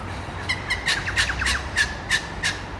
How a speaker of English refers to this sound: So many birds about. There are lots of birds, aren't there?